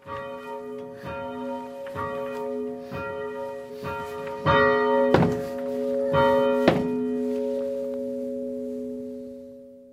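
A church bell, rung by hand with a rope in the French Church in Bern with regular strong pulls, tolls in steady, evenly spaced strokes, each with a dull thunk and a long ringing hum; the final strokes come louder before the tone lingers and slowly fades.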